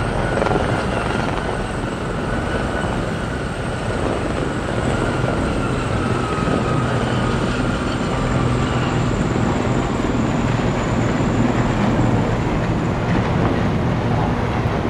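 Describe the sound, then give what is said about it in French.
Steady, loud rotor roar of several army light aviation helicopters passing overhead in a parade flypast, a dense continuous thrum with a faint high turbine whine, swelling slightly as they go by; no voices. “Là, on entend passer le défilé de l'aviation légère de l'armée de terre. Ce sont les hélicoptères de l'armée de terre.”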